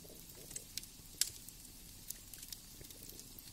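Quiet crackling of burning logs in a fireplace: scattered sharp pops and snaps at irregular intervals, one louder crack near the middle, over a soft low rumble with no voices.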